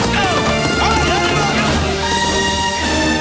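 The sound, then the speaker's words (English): Horses and cattle move together in a split-rail corral beside a weathered barn in a wide valley, with riders on horseback working the cattle. A busy jumble of clopping hooves and occasional animal calls, loud throughout. “A herd of cattle raises dust as they head for a weathered barn in a wide valley.”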